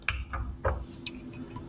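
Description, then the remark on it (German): A bottle with sediment, just taken from the fridge, being opened: a few small clicks and scrapes, with a brief louder rattle partway through, otherwise quiet with no talking. “ich mache mir das dann einfach jetzt mal auf”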